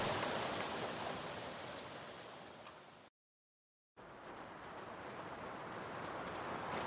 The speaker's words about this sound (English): And always, rain.